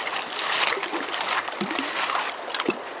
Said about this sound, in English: He puts a screen on top of his bucket and starts shoveling rocks through it. All I'm doing is agitating the dirt to break away any gold that's in it.